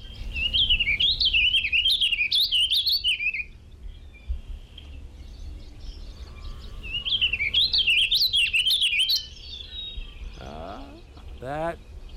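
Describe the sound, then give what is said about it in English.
A bird sings two bursts of rapid, chattering song that zigzags quickly up and down in pitch, each lasting about three seconds, with a pause between and a few faint calls afterward. “let's listen to here's a bird song”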